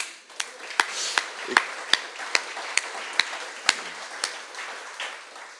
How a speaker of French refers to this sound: Et en mon nom, j'aimerais leur dire merci. Alors, je ne sais pas s'il y en a ici, ou sont tous partis, tous partis. Eh bien, on va juste les applaudir rien que pour le plaisir.